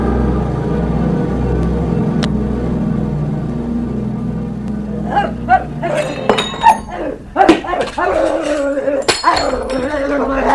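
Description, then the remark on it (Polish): A dog barks in a burst of sharp, irregular yelps and woofs, fairly loud, following several seconds of low rumbling background noise. “Znowu ten upiorny pies!”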